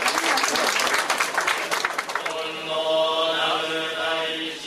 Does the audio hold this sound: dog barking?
no